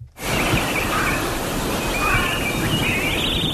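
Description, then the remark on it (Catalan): Thin, high chirping birdsong played from a button-operated sound machine, a few warbling calls, rises over a steady, loud wash of hissing, rushing noise that fills the whole clip. No one speaks. “i ell va amb una màquina que apreta un botó i comença a parlar gent, però és que a més ara porta uns ocellets incorporats.”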